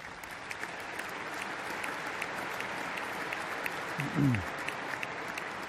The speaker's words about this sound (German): Und das, meine ich, ist ganz besonders wichtig und einen ganz besonderen Applaus wert.